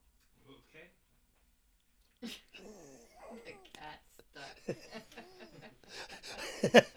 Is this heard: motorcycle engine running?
no